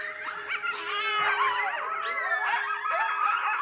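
A chorus of coyotes in New Mexico howling and yipping together, high wavering wails rising and falling over one another in a steady, continuous outburst with no talking.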